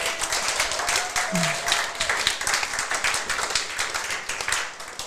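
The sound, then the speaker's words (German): A crowd applauds for Jesus during a morning sermon, steadily for about five seconds, a dense wash of many hands clapping at once with a consistent, bright crackle and no pauses. “Und wenn ihr mal applaudieren wollt heute Morgen, ich mache das ja nicht mehr, weil ich das zu oft gemacht habe, dann wäre jetzt eine gute Möglichkeit, Jesus einen Applaus zu geben.”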